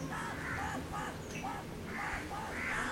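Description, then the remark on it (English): A crow caws repeatedly in harsh, raspy bursts, several calls in quick succession, over a steady background rush of noise. “Just note that the crow is crowing.”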